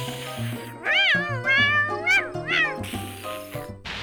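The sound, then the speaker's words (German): A cat meows three or four times in quick succession, fairly loud, with wavering, drawn-out cries over a low steady background tone. “Und drittens, kein Katzenjammer. Empathar! Miau!”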